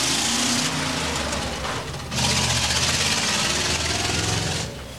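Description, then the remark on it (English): A heavy Mercedes truck engine idles with a steady low rumble and rattling hum, briefly easing off near the middle before resuming at full strength. “I get in my big Mercedes truck here on the Wednesday.”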